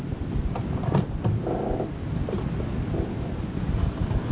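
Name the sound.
cat purring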